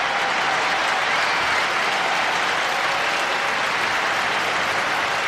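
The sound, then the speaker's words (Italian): A large crowd in a tennis stadium applauds steadily, a dense wash of clapping that stays loud and even throughout with no voices standing out. “la gente poi si scalda e il rigido protocollo lascia spazio alle barbarie del tifo da stadio.”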